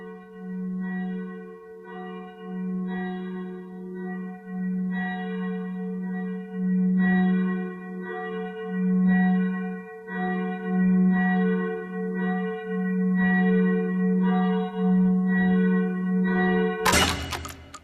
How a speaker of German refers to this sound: Glockengeläut.